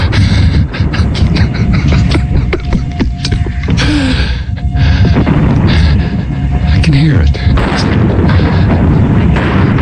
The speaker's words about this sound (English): Shooting down there.